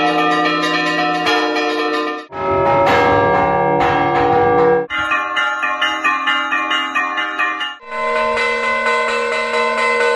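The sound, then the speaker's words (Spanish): Church bells of the churches of the diocese of Tuy-Vigo peal loudly and continuously, overlapping strikes ringing out in dense, shimmering layers with a few brief shifts in the pattern, and no voices; they ring on the news of the appointment of a new bishop. “Así repicaban las campanas de las iglesias de la diócesis de Tuy Vigo al conocer el nombramiento del que será su nuevo obispo”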